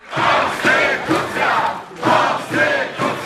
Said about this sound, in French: Entouré d'une marée de caméras et d'appareils photo, Małgorzata Gersdorf longe le bâtiment de la Cour suprême et avance au milieu d'une foule de plusieurs milliers de manifestants.